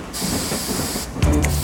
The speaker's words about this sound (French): Les deux autres cafards apparaissent à la même fenêtre et sifflent le départ. Le train s'ébranle et commence à rouler.